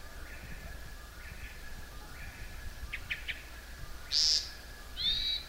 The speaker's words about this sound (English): That was also the call note or the sound that a hermit thrush makes.